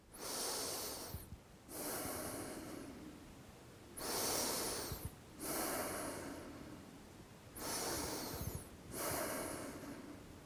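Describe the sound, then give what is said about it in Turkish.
Three slow, deep breaths taken to calm down from anger, each a loud airy inhale followed by a long hissing exhale, repeated in a steady rhythm with brief pauses between them and no talking. “İş yerinde ya da aile ortamında, evde öfkelendiğimde 3 kez derin nefes alıp sakinleşeceğim.”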